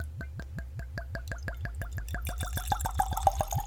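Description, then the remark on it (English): Wine glugs steadily from a freshly uncorked bottle into a glass in a fast, even series of gurgles, the splashing rising in pitch as the glass fills. No one speaks. “Let's put that in a glass because I'm already getting heavy fruit out of that.”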